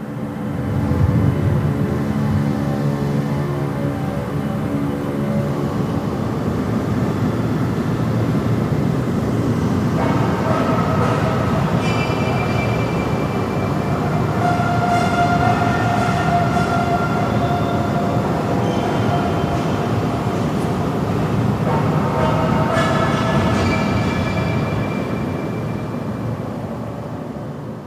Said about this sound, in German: Anfangs haben wir gedacht, da würde irgendwo Musik oder Ähnliches gespielt werden. Doch das war wirklich nur Baustellenlärm, der hier in der Säulenhalle einen besonderen Hall entwickelt hat.